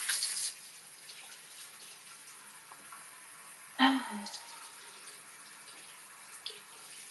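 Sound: water running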